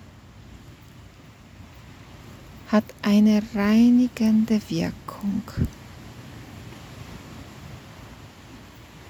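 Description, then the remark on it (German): Ocean waves wash steadily on the shore in a soft, continuous hiss, while a person speaks quietly for a few seconds in the middle. “Vielleicht kannst du wahrnehmen, wie die Wellen deinen Füßen ständig streicheln.”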